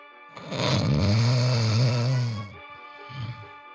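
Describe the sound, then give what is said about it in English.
A sheepdog snores loudly: one long, rumbling, drawn-out snore followed after a brief pause by a shorter, softer snort. “slumped against him, snoring in his ear”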